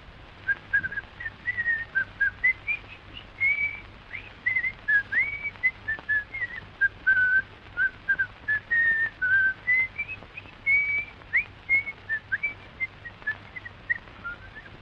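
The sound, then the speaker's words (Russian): A house painter whistles a cheerful, meandering tune in short phrases while repainting a whole fence, clear, with a faint steady hum underneath and no talking. “И вдруг пришел маляр и стал ко дню 1 мая весь забор заново красить, весело насвистывая.”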